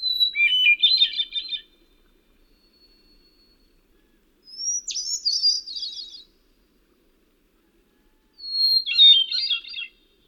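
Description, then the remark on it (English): A thrush sings three separate phrases in a forest, each a clear opening whistle followed by a fluttery, ringing trill, the song bouncing off the surrounding trees, with pauses of a couple of seconds between them and no other sounds. “Like a thrush sounds best if you back off from it a little bit and get that rich melodic sound bouncing off the surrounding trees.”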